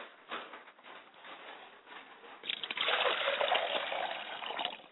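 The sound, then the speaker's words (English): Water poured out as a libation pours steadily onto the ground, starting as a light trickle and swelling after a couple of seconds into a fuller, splashing gush. “And I allow the water to pour to the ground.”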